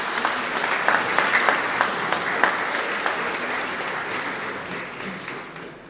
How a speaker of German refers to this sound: Dürfen wir ruhig mal klatschen.